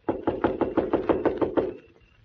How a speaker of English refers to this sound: Now remember, I'll knock, the doll will answer, and then I leave.